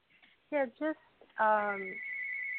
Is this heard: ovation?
no